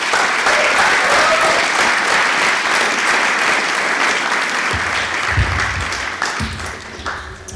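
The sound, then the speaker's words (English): A crowd applauds loudly and steadily, a dense wash of many hands clapping that holds strong throughout and begins to thin slightly toward the end, welcoming the fourth and final speaker at a talk. “Please give a round of applause for our fourth and final speaker.”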